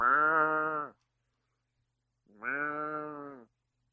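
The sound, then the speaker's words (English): A person imitates a goat's bleat twice, each a sustained nasal, wavering cry about a second long with a pause between, fairly loud, with no other talking. “Wait, this is... Goat.”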